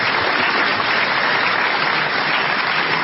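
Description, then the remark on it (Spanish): Steady applause from an audience fills the whole stretch, a dense, continuous patter of many hands clapping at once, loud, with no voices standing out. “Ahora van a tener que aplaudir otra vez, van a ver.”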